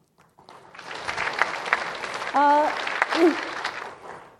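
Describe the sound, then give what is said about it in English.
An audience breaks into sustained applause, a dense wash of clapping that swells quickly and holds steady for several seconds, with a brief voice calling out over it partway through. “If you feel like applauding at the end, I'll be absolutely delighted.”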